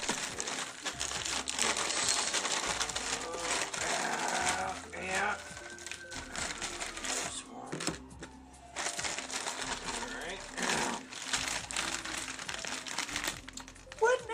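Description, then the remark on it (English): A beef and bean chimichanga's food wrapper being peeled open in a kitchen in Los Angeles, California, with steady loud crinkling and crackling plastic that comes in bursts for about fourteen seconds, while a voice murmurs faintly at moments. “Looks like we removed the chimichanga from the wrapper.”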